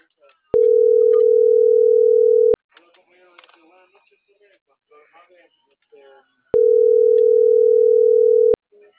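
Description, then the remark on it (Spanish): A steady, loud line tone from another telephone sounds for about two seconds, stops, then returns for another two seconds after a stretch of faint, muffled voices talking in between. “otro teléfono que te dio la línea.”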